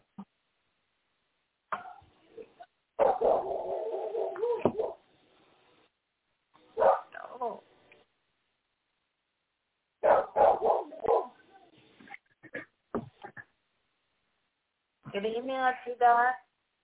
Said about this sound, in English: Who he barking at? Who she barking at? Nothing. Y'all got a dog? Mm-hmm. Sounds yes. Like a beagle dog. Is he a yes. Big dog?